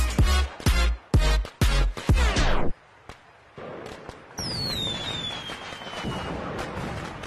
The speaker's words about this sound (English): That last firework was like, didn't want to go off. And the person was like trying. And the fire was like, no, wait for me. Wait. And then at the last one, it was like, pew. So that was very interesting.